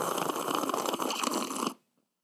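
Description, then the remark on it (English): A single harsh, raspy throat clearing, loud and gravelly, rumbling steadily for under two seconds before cutting off into silence, caused by eating crookies, a croissant-cookie pastry. No talking is heard. “I had to clear my throat because of crookies.”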